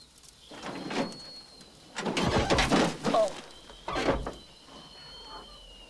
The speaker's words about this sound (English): The pickup turns over and rolls down a bank, coming to rest on its wheels, but badly smashed up.